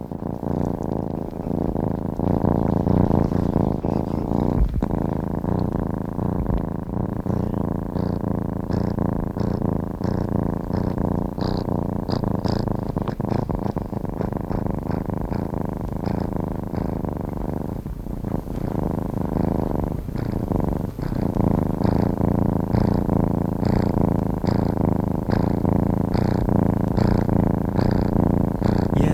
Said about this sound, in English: This is a purring of a kitten, and it was requested by a listener who said that she is allergic to cats.